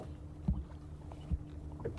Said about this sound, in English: There's an engine, yeah, there's a boat coming away down the lake now from... Yeah, I can see it just in the dim distance there. It's coming down from Inchigill. Someone's been fishing on Inchigill.